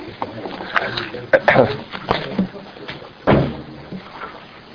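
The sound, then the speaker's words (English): A door is pushed shut with a solid thunk near the middle, followed by another heavy knock a bit later, while muffled voices and shuffling carry on in the room. “Why don't you close the door so we don't pollute the sanctity.”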